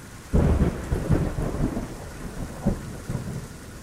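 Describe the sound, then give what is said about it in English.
A monsoon thunderstorm rumbles, deep thunder rolling in heavy bursts over a steady wash of pouring rain, with no voices. “We wait for the storms to come and soak up the rains when they do.”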